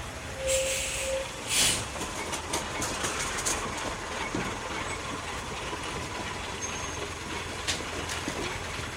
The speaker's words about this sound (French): Nous reprenons ce soir le métro jusqu'à Mérimont-Montreuil et sautons dans l'autobus 122 qui nous dépose place Le Morillon, au cœur de sept cités du même nom.